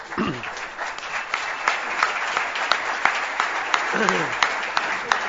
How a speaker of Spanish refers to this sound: Agradezco la presentación y el aplauso en nombre de todos los que hicimos esta película, porque fuimos muchísimos, algunos de los cuales se encuentran en esta sala.